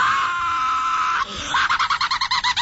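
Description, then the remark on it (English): A rape whistle blows a loud, shrill steady blast for about a second, then breaks into a rapid, rhythmic warbling trill of repeated high-pitched pulses. “And that rape whistle, all that does is alert more rapists.”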